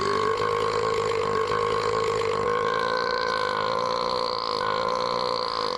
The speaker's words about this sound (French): Et du coup, il rote un peu sur Madge.